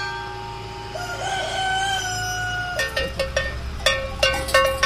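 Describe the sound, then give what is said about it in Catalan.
A rooster crows in a long, rising call, followed by a series of sharp, metallic cowbell clanks in an uneven rhythm, loud over a low rural background hum, in a rural area. “La Federació de Raça Bruna dels Pirineus està col·locant desenes de cartells on recorden els visitants que entren a una zona rural on hauran de conviure amb galls, campanes o tractors.”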